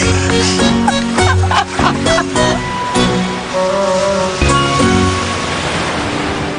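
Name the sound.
river water flowing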